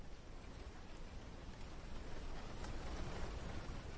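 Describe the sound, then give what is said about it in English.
Wind rustles steadily through the fronds of dune palms near Djibouti in East Africa, a dense, continuous hiss with a pattering, rain-like texture that swells slightly toward the end. No voices. “A wind blows through the dune palm fronds.”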